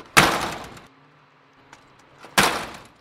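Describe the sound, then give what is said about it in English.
A door is slammed shut twice, a couple of seconds apart, in a test of whether slamming can break it. Each bang is loud with a short rattling decay, and faint clicks and knocks fall in the quiet gap between. “We tried slamming it over and over again. And when that didn't work, we tried kicking it.”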